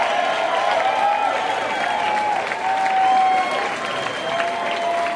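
A large live concert audience claps steadily and cheers as the band returns to the stage, a dense, continuous wash of applause with scattered shouts and sustained whoops rising above it, heard from within the crowd.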